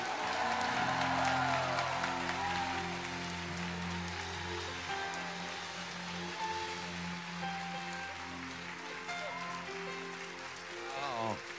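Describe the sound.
A crowd applauds steadily to welcome a guest pastor, a dense, continuous patter of clapping that stays loud throughout, with sustained low musical tones and a few voices underneath.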